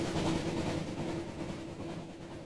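train travelling on rails

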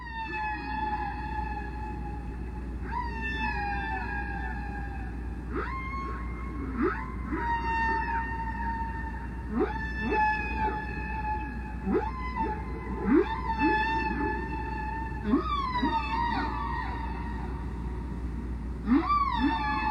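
whale song

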